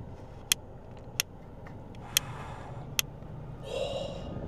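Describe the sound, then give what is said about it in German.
Four crisp plastic clicks spaced about a second apart as the Smart Dials on a car dashboard are turned, followed by a brief soft scraping as the car's air vents are adjusted. “Und dann habe ich nochmal an den Lüftungsdüsen gedreht”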